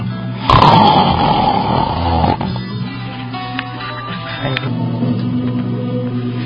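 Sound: loud snoring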